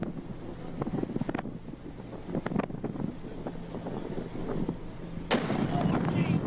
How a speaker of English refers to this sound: This explosion is beautiful. It's one of the prettier ones I've seen.